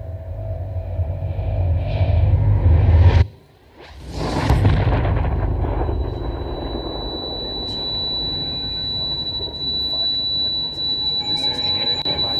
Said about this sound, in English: I'm standing by this fax machine, trying to send some documents out to our office in Philadelphia. And I hear this incredible explosion.